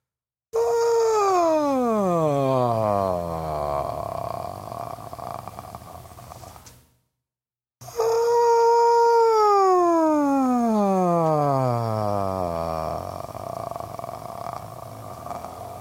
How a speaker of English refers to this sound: This is exercise 6. Begin as high as you can sing, slide down on a glissando, and end with a sound at the bottom of the glissando that is called a scrasp. Demonstration is like this.